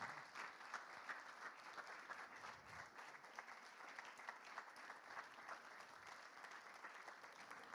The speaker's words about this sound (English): And I just want to honour these guys and thank them. So can we just give them a round of applause?